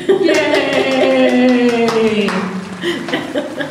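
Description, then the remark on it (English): A short burst of clapping with steady, sharp hand claps, mixed with sustained voiced whoops or cheering tones that slide downward, fairly loud throughout. “All right, I'm just going to give applause.”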